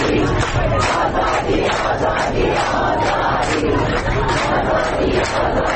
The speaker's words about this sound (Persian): گروهی معترض به قطع پی در پی آب و برق مقابل استانداری تجمع کردند و شعار دادند.